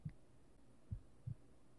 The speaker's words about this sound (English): Can you hear my heartbeat like this?